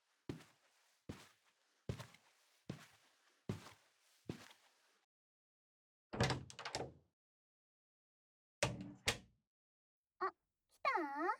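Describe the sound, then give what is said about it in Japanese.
A steady series of footsteps approaches, then a door opens with clunks of the handle and latch, followed by a brief creak as a visitor comes into a woman's apartment. There is no talking. “じゃあエントランスのドア開けてあげるから、そのままお部屋入ってきてね。”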